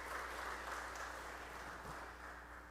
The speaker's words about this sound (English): If you believe that to be true, give God a praise clap this morning.